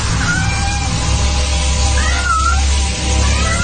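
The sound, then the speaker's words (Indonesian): A small cat under a washbasin in a toilet meows several times in short, rising-and-falling cries, heard over a steady low hum and constant hiss of background noise; no one speaks. “Dan hanya ada seekor kucing kecil yang sedang berada di bawah wastafel.”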